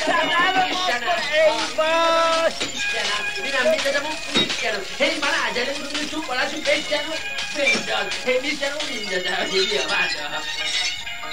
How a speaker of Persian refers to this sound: بله بچه ها، به صدای شکستن شیشه ها و فریادهای اوستا تمام مردم پشت در مغازه جمع شدن. وقتی حسن کچل تمام شیشه های مغازه رو شکست، تازه در رو باز کرد.